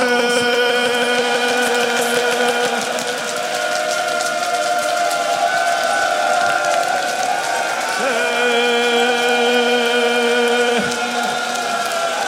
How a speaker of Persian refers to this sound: صدای بارون کربلا